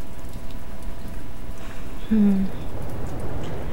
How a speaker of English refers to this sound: You know, I'm glad we decided to stay in tonight. The rain is outrageous. But I love the rain. Don't you?